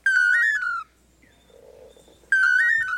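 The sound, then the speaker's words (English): A pair of male long-tailed manakins in Central America sing their duet Toledo song to woo females: two loud, whistled phrases, each a slurred, warbling note held for under a second, separated by a quiet pause of about a second and a half. The pair repeats the same tune. “Researchers have estimated that the dynamic duo may perform their Toledo song up to 5,000 times in one day.”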